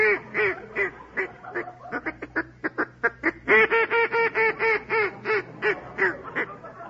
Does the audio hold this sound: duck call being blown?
yes